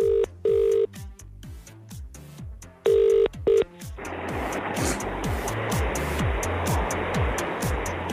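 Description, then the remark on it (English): An outgoing call rings on the line, two double-burst ringback tones, then the call connects to a steady hiss of an open, silent line with no one speaking. “And so we rang someone back, and they were worried that it wasn't us on the other end of the phone, so they were just silent for like 10 seconds.”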